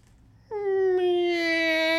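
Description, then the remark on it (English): A person imitates a cat's meow: one loud, drawn-out vocal note that begins after a short pause and holds a steady, slightly falling pitch for about a second and a half. “For someone that doesn't do impressions, that impression of a cat was touched by God, was it not?”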